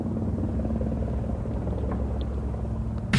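A helicopter drones steadily overhead, its deep, throbbing engine rumble loud and constant throughout, with no voices present.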